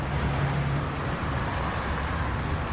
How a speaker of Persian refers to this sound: محب توی ماشین نشسته. به ساعتش نگاه میکنه.